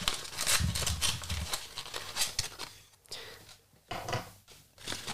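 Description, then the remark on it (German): Crinkly paper rustles and tears in quick, uneven bursts, with brief pauses between handfuls of crumpling, as gift wrapping is pulled open. “Ich will es nicht weiter aufreißen. Moment, ich mach. Es raschelt und.”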